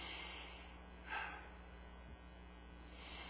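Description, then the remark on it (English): A single slow, airy breath from a man demonstrating slow breathing, at a rate of 13 breaths a minute, rises briefly out of a steady low hum and background hiss, quiet, with no talking around it. “He's breathing slow up here.”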